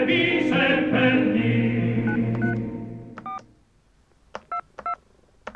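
As a musical passage fades out, a telephone number is dialed to reach Lidia Menapace: a handful of short, clear touch-tone beeps sound, spaced irregularly across the last few seconds.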